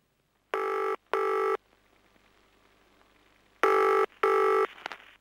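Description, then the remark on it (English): A telephone rings on an outgoing call to the Ivy Dale Guest House to make a reservation: two double rings separated by a pause of quiet line hiss, each burst steady and loud. “phones a guest house to make a reservation.”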